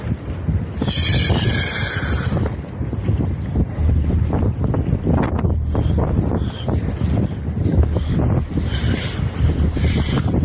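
Steady wind blows across a lake, buffeting the microphone with a low, continuous rumble and gusty swells, while faint lapping waves and a brief high chirp early on sit beneath it. No one speaks.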